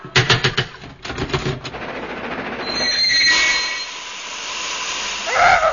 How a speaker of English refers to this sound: Oh! A puff-puff train.